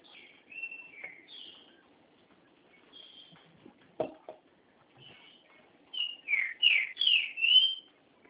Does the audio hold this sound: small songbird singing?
yes